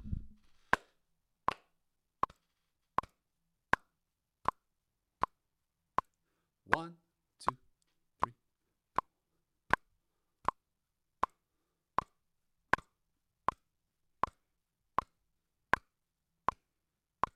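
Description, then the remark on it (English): A metronome ticks steadily at 80 beats per minute, each sharp, bright click evenly spaced and equally loud, with a couple of brief vocal sounds near the start and around the middle. “So, metronome is at 80 beats per minute, right?”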